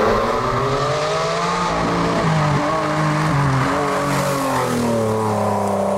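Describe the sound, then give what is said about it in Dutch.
A loud Ferrari engine roars and revs, its pitch climbing and shifting through gears in a sustained, throaty howl with no voices present. “En ja, we laten nu gewoon een brullende Ferrari-motor horen.”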